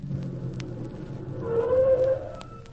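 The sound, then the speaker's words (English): A low engine rumble swells as a vehicle draws closer, its motor note rising and growing louder for a moment before easing off slightly. No one speaks. “There's a car coming.”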